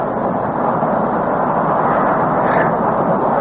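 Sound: airplane engine in flight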